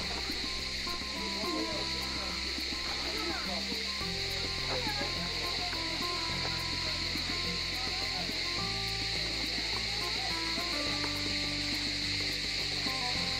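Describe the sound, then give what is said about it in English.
Channeled spring water pours steadily from four faucets near Mary's house, a continuous rushing and splashing that holds at an even level throughout without pause. “There are four faucets. The spring water was here, and it's one of the reasons why Mary and St.”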